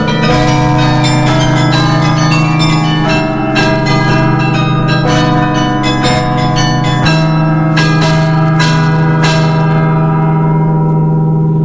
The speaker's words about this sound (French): Beffroi de Mons, 83 mètres, hein, je crois, et tout en haut, le carillon, 49 cloches, et bien sûr un carillonneur qui vient de temps en temps animer ces cloches.